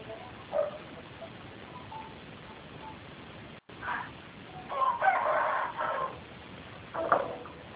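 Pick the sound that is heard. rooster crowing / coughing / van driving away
rooster crowing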